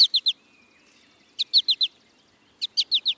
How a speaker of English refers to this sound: American goldfinch males sing a bright, bubbly song and nearly always call in flight with a sweet four-syllable.